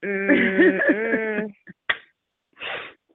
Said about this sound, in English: You cough in your armpit or you cough in your hand? I cough in the air so y'all all can get it.